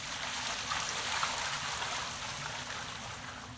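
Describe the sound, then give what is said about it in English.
Water from large jars pours and runs steadily for a few seconds over an offering and wood on an altar, a continuous splashing rush with no pauses and no voices. “Fill 4 large jars with water and pour it on the offering and on the wood.”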